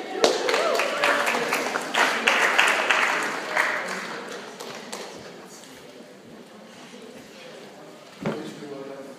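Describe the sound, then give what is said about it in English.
An audience cheers and claps for a volunteer who has come up to the front, bursting out together loud and dense for several seconds, then thinning out into scattered claps and murmuring before one last sharp clap. “Give me a big cheer.”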